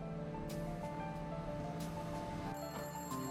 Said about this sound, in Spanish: El teléfono ya estaba sonando cuando llegó.